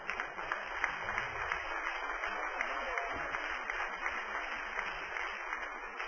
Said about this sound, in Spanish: se atreve a darle un aplauso a Cristo.